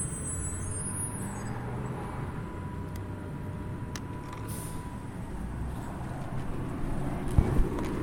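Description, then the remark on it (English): A bus rumbles as it pulls up at an intersection, with short hissing bursts of air brakes over a steady, loud engine drone and surrounding street traffic. “Here comes a bus pulling up, it sounds like.”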